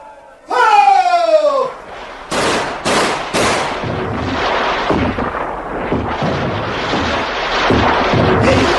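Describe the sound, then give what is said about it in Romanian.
A brief wailing, falling tone gives way to gunfire on a street: loud sharp shots cracking in quick irregular bursts, then a sustained rattle of firing over a noisy, clamorous background. “Auzi că iar trag.”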